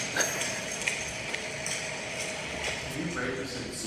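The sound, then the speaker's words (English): Echoing footsteps clack at an irregular pace in a reverberant space, each step ringing out briefly over a dense, murky background with faint voices murmuring underneath. “Just the reverberant tones, especially that I noticed from like the footsteps, just brought like swampy and also like jail-y type.”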